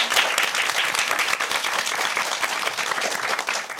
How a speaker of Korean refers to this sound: 다시 한번 박수 주세요.